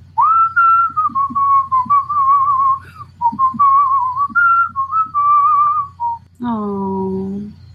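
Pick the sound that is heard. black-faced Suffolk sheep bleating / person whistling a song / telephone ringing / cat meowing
person whistling a song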